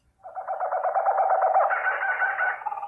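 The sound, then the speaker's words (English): Kookaburras, a kind of bird, let out a loud burst of laughing calls, a rapid, continuous run of chattering hoots that rises in pitch and intensity without pause for nearly three seconds. “Those were kookaburras, a bird.”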